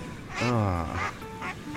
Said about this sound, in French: Mais écoute les canards comme ils sont tout agités.